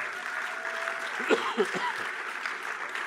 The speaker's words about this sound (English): So time is scarce, but we got an added 15 minutes here, and I think it's because you guys are clapping so hard. So thank you.